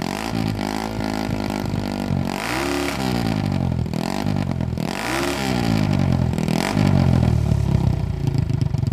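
An Italian-made single-cylinder motorcycle engine, made from 1961 until 1978 through Harley-Davidson's partnership with a company in Italy, revs repeatedly, its pitch rising and falling in several bursts, loud, with a rough, throbbing idle between the throttle blips and no talking.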